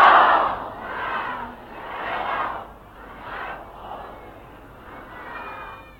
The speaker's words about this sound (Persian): برای سلامتی همه کسانی که به مذهب ما و مملکت ما خدمت میکنن صلوات و بلند خط کنی.